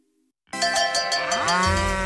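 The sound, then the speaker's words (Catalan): A dairy cow lets out a single long, loud moo that starts abruptly after a brief silence and holds steady, dropping into a deep, rough groan at the end. “A l'Agenda del Pagès 2025, les vaques de llet.”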